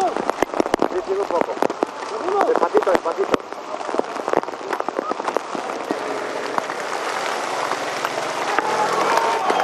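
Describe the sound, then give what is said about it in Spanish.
Dense, rapid pattering of hail striking hard surfaces during a hailstorm that suspended a stage of the Vuelta cycling race, a continuous loud clatter of sharp impacts with scattered louder cracks, and faint voices audible beneath the din. “El sonido del granizo impacta.”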